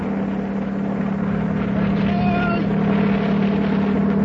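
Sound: helicopter hovering overhead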